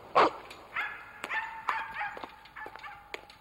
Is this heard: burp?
no